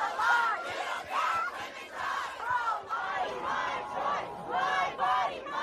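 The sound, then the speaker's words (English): A protest crowd outside the Supreme Court building, holding up placards after a court decision was leaked, shouting in rhythmic, repeated chants, the massed voices rising and falling in steady waves with loud, sustained yells throughout. “And we saw within certainly hours, maybe even sooner, of this leak being made public that there were crowds gathering outside the Supreme Court building, you know, holding up placards, launching their protests.”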